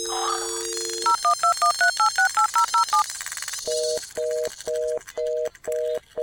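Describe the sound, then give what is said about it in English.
A phone call to Robbie placed from the caller's end: a brief dial tone, a quick run of keypad beeps, then a steady series of ringback tones repeating with nobody answering. No voices. “Dang it, Robbie, pick up the phone. Why won't you pick up the phone?”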